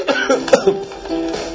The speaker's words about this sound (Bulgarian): Голямо кашляне и голямо кихане.